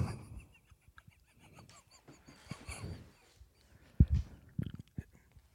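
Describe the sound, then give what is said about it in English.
Crunching of raw, dry Pot Noodle instant noodles being eaten uncooked: irregular crackly bites and snaps, quiet at first, then a few sharper, louder crunches near the end. “Just crunch it up.”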